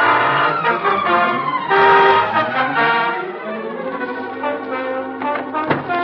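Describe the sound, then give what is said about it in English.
At 11 a.m., a long, black, heavily curtained sedan pulls up before the Rudy Valley house with a rumbling engine and sounds its horn in a series of loud, brassy toots, several overlapping blasts, with no one speaking. “A long, black, heavily curtained sedan draws up before the Rudy Valley house.”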